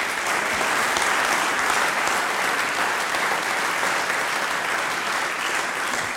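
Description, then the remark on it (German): A concert audience applauds the performers steadily for several seconds, a dense, even wash of many hands clapping at constant loudness with no voices standing out. “Das ist euer Applaus.”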